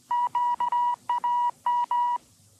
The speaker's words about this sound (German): Der Wetterbericht endete noch mit Morsezeichen und nachts war Sendepause.